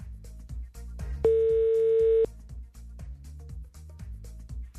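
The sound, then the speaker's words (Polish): A single steady telephone ringing tone, a call being placed to a listener during a radio phone-in, sounds for about a second, loud and clear over a rhythmic music bed that plays throughout. “Sygnał jest.”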